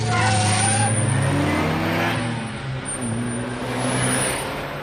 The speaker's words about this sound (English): Fasten your seatbelt. I am taking you for the ride of your life. I'm gonna show you what this car can really do.